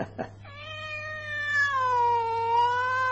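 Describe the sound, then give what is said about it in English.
A cat lets out one long, drawn-out meow that slowly falls in pitch, clear, after a brief faint chirp at the start, with a low steady hum underneath. “How you doing, pretty kitty? Did you miss me?”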